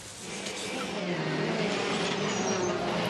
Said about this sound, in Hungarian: Nagy reményekkel várta Mihelis Norbert a túraautó világbajnokság portugál hétvégéjét, ám már az első futamban csúnyán összetörte az autóját.